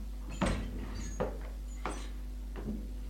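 An old man opens the door on the right; it slides or creaks open in several short scraping bursts, each with a brief rising whoosh, over a steady low hum, with no voices.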